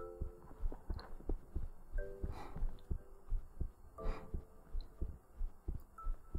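A steady heartbeat thumps close and muffled, its low pulses repeating at an even, relaxed pace over a soft hum, with no one speaking.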